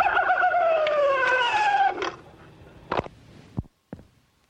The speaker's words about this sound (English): The coyote goes.